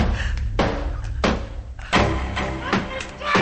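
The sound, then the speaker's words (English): A meat cleaver chops hard into a wooden door, about five heavy, splintering thuds at an uneven pace, loud, with a dense murmur of voices underneath. “starts using the meat cleaver on the door.”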